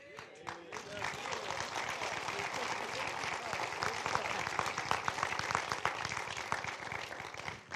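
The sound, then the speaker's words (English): A church audience applauds steadily for several seconds, a dense wash of many hands clapping at a fairly loud, even level with a few sharper claps standing out. “They're clapping that I knew about his name.”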